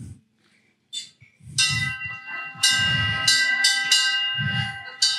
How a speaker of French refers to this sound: Une cloche. Une belle cloche, vous pouvez venir regarder, qui est gravée à mon nom, magnifique. Puis je trouve qu'elle fait un bruit magnifique.